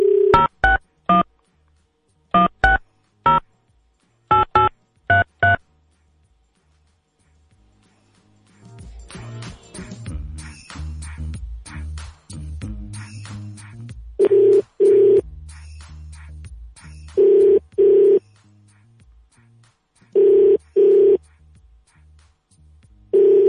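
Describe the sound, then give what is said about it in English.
A quick series of touch-tone telephone beeps as a number is dialed, followed after a pause by a repeating ringing tone on the line, with clicks and background noise between rings. “Answer the phone.”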